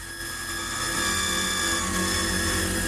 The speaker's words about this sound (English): Sarah covers her ears to block out the sound of the drill piece penetrating the combination lock.